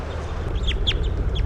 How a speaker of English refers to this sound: So recording bird 353, the new juvenile.